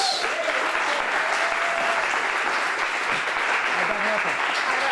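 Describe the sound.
A crowd claps steadily and loudly for several seconds, a dense, continuous wash of applause with faint voices and cheers mixed in underneath.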